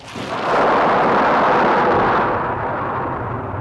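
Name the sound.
storm with thunder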